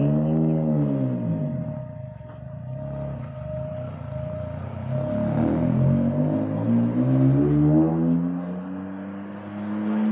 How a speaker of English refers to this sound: It sounds like a hot hatchback. Yeah, that sounds a lot like a gasoline-powered engine. Holy shit. Even the race car driver thinks it had a normal engine.